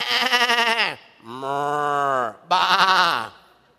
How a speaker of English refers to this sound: But Samuel said, what then is this bleating of sheep in my ears? What is this lowing of cattle that I hear?